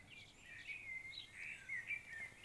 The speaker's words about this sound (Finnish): Ja kaukana Suomessa toisen mustarastaan varovainen laulu soi jo helmikuun lauhempina iltoina, koska ei ne talveksikaan täysin hiljene.